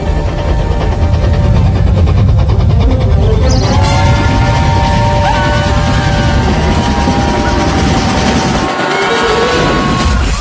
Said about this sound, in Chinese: 我们现在要做的是赶上火车， 不会离得太远的。 你听见吗？ 一定靠近火车了。